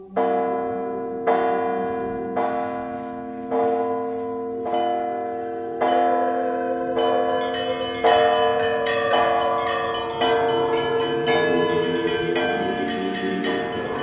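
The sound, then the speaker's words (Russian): Church bells ring out in a steady, evenly spaced series of resonant strikes, the tones overlapping and swelling into a fuller, layered peal toward the end. No voices are present. “колокол дремавший разбудил поля. Улыбнулась солнцу сонная земля. Понеслись удары к синим небесам.”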